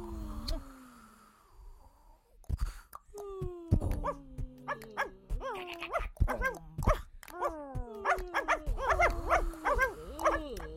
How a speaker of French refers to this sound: Ah, il y avait quelques chiens dans ce portrait sonore. Et beaucoup, il se passait beaucoup de choses. Quelques aboiements et quelques silences,